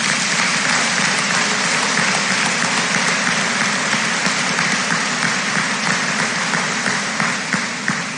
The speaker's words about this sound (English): Please join me in giving these students a round of applause.